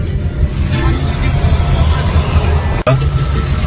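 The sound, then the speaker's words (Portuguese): Steady street traffic around a broken-down Plataforma bus: a constant low rumble of idling engines and passing vehicles in congested traffic, with faint background voices mixed in and one brief dropout near the end. “A imagem mostra lá ônibus quebrado de fato, trânsito congestionado, mas pelo que ele falou no vídeo, parece ser no bairro de”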